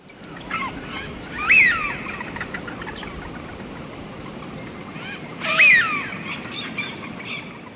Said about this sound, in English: The widgeon is a colourful duck that can often be spotted wheeling around our skies in large flocks. A dabbling duck, its surface feeds on plants and seeds in shallow waters.